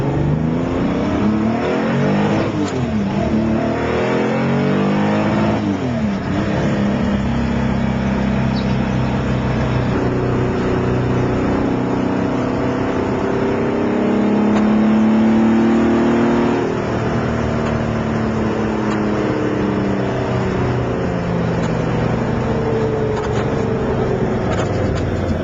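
A Chevrolet Corvair's rear-mounted 3.1-litre air-cooled flat-six engine with Weber carburetion revs repeatedly, its harmonic pitch climbing and falling in smooth sweeps, then settles into a steady, loud drone with a raspy, buzzing tone. No one speaks.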